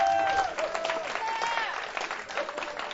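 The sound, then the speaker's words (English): A church audience claps in worship to God, a dense, continuous wash of applause, with scattered voices and faint high tonal cries rising over the clapping throughout. “We clap to you, Lord God. We clap to you.”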